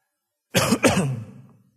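A single loud cough with a harsh throat-clearing quality, two quick bursts in succession, followed by a brief fading rasp and then silence.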